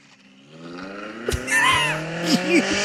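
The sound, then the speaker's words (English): A Honda S2000 sports car with a loud, modified UK exhaust revs hard, its engine note climbing steadily in pitch, punctuated by brief high squeals and chirps as it accelerates. “Is it a Honda S2000 with the UK exhaust mod? It is.”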